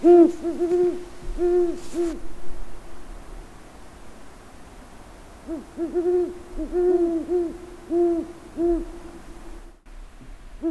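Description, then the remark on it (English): A great horned owl hoots in two bursts of deep, evenly spaced hoots, separated by a short pause, over a soft hiss of outdoor background noise, with no talking. “And this call of the great horned owl was recorded by Sean O'Brien.”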